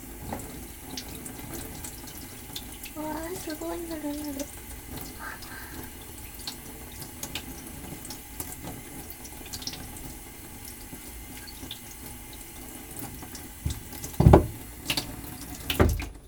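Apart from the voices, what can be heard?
tap water running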